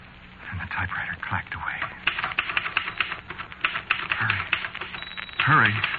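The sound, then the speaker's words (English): Rapid, irregular clacking of typewriter keys being typed, a dense run of sharp taps at moderate volume, with faint voice-like tones murmuring underneath and a brief tonal sweep near the end. “Painfully, oh, so painfully, I got one hand on the keyboard.”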